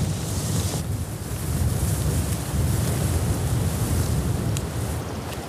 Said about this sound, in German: Wir nähern uns jetzt Schritt für Schritt der Eiche auf dem Hügel. Hier oben ist es ganz schön windig.